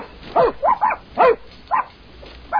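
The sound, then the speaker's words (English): A puppy, given as a Christmas present inside a gift box, gives a series of short, high yips and little barks, about six in an uneven burst, sounding slightly muffled as if enclosed in the box. “It's a puppy, isn't it?”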